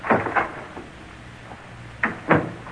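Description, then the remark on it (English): A door being opened, with two quick wooden clunks, a brief quiet pause, then two more rattling knocks as it swings, moderately loud with no voices. “I wonder where this door leads to.”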